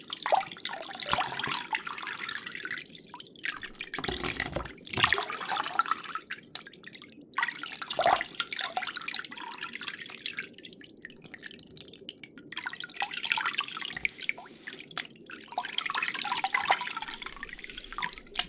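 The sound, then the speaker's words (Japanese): Water drips and trickles steadily, with soft splashing bursts at irregular intervals, like water being poured or squeezed over hair into a basin, as hair is wetted with warm water before shampooing during a head spa, without a shower. No one speaks. “まず、髪を濡らしますね。”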